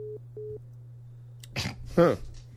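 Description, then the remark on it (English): Two short, evenly spaced beeps of a telephone busy tone over a low steady hum, signalling a dropped call, followed by a brief burst of voices. “Our phone is in the bottom 10%, apparently. All right, let's call him back.”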